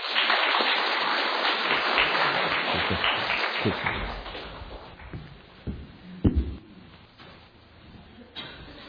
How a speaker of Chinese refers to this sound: 那我们一起用掌声来欢迎他来到台前。